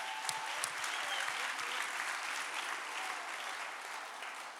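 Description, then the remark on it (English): An audience claps steadily, a dense wash of many hands with scattered sharper claps near the start, holding a fairly even loudness for a few seconds with no one speaking. “See, we have to clap break.”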